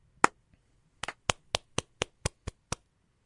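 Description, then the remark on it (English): A single sharp hand clap, a short pause, then about eight steady, evenly spaced claps, crisp and fairly loud against near silence with no talking. “Should give ourselves a round of applause here.”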